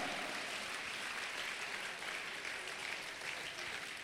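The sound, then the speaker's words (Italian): An audience claps steadily for Jesus for several seconds, a dense, even wash of applause with no breaks and no voices rising above it. “Applaudiamo Gesù, egli è l'essenza della nostra gioia.”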